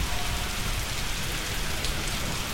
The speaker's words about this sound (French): Avec difficulté, j'ai traîné mes deux grosses malles depuis l'arrière de la voiture, tandis que la pluie me dégouttait dans le col par derrière.